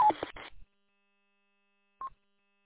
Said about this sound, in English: Alpha Alpha Zero Hotel Papa, please turn off your Roger beep. You don't need to send a Roger beep on the network.